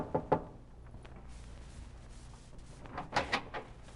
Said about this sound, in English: I kept walking until my shoes were gone, till I came to a strange city and to a harbor where ships were docked. I went aboard one and knocked on the cabin door.